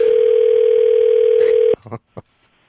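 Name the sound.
telephone dial tone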